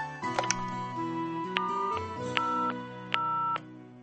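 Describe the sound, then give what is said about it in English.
A hotel telephone rings in steady electronic tones that step between pitches as a call is placed to housekeeping, with a few sharp clicks along the way, heard clearly for a few seconds with no one talking. “Can you please call housekeeping and ask for a new jug?”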